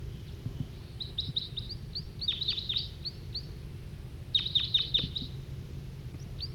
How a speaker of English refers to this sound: Another wild bird's coming in, giving flight calls.